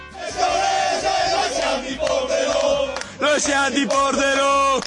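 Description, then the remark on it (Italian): A large crowd of Pordenone football fans chants in unison at San Siro, loud and sustained, with rhythmic sung phrases and swelling voices that briefly drop before resuming with renewed force. “Salutiamo i tifosi del Pordenone, diciamo, tifosi, diciamo, di classe, di calma, dignità e classe, che possiamo sentire da questo coro.”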